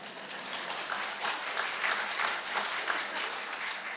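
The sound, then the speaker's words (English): A steady burst of applause for completing the Tour de Victoria, a 140-kilometre mass participation bike ride: dense clapping sustained at even loudness for several seconds with no voices standing out. “And so I can now inform you that I completed the ride. Applause.”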